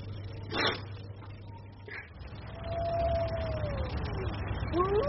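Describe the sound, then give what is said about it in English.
Wolves howl: one long, steady howl slowly slides downward in pitch, then a couple of higher, rising howls start at the end, all over a low, constant rumble. “They terrify me, wolves.”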